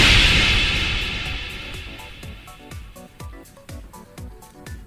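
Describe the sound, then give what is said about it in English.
A video game death sound at zero health: a loud burst of hissing noise fades out, then a steady run of sharp electronic blips repeats, slowly growing quieter. “This is the noise it makes when you have zero health and you die.”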